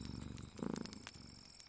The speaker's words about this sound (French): Le chat se met à ronronner, serré contre elle.